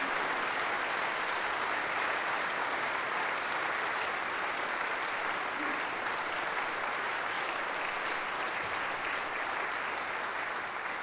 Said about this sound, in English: I would like to say one more round of applause for that wonderful Minnesota Valley Men's Chorale.